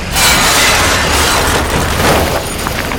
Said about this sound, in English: Moments later, the gravel was dumped into the back of the truck.